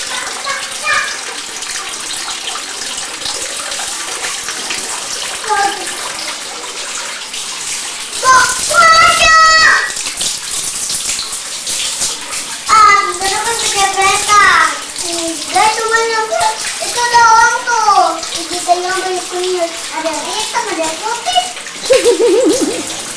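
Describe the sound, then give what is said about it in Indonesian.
Water splashes and gushes steadily throughout as children play with water, their high-pitched voices chattering and squealing in Indonesian over it, rising in bursts of excited, sing-song calls. “Ya kalau main air masuk angin nanti.”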